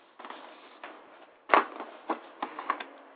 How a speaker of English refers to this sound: I know you hear me rattling paper. I'm trying to get my facts together and make sure I got everything where I want it.